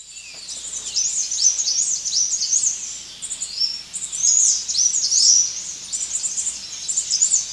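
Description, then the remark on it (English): A white-naped brush finch sings a series of high, thin, warbling phrases with quick rising and falling notes, repeated throughout over a faint background hiss, with no talking. “It's the white-naped brush finch.”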